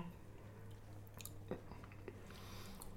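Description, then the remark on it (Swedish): Noisy chewing of a crisp meringue dessert being tasted at a microphone, with irregular crunchy bites and wet mouth clicks over a steady low hum, no talking. “Inte smaska i mikrofonen nu,”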